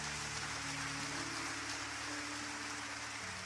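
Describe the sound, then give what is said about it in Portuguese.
An audience applauds the Lord in a dense, steady wash of clapping that holds at an even loudness for a few seconds, with no voices audible over it. “Aí você pode aplaudir o Senhor por isso, irmão?”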